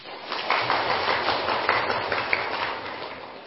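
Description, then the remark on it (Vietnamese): A crowd at a Buddhist temple gathering claps steadily for several seconds, a dense wash of overlapping handclaps with a few sharper individual claps poking through, fairly loud and sustained throughout. “Đây là một cái phước của chúng ta từ nhiều đời nhiều kiếp, chứ không phải mới đây, nên chúng ta vì lý do đó mà tán thán chẳng pháo tay.”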